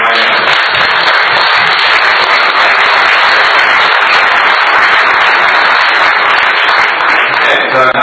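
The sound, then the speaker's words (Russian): A crowd applauds steadily for about eight seconds, a dense, loud wash of many hands clapping at once with no pause or fade and no voices standing out. “Давайте дадим их аплодисменты.”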